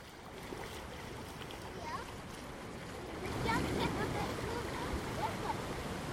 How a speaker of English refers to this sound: We're going to get closer to the water noises if we cross over to the other side. We just need to find a bridge.